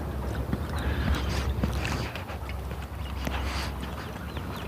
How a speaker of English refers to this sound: Beautiful morning here on the Front Range in Greeley, Colorado. Sun's up, it's a little chilly, 50 degrees. Beautiful blue sky. Birds are chirping.